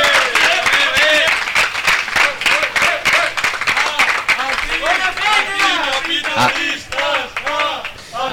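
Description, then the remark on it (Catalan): An election-night audience applauds steadily after Capgirem's result, a dense, continuous patter of many hands clapping, with voices calling out and chattering loudly over it. “Aplaudiments”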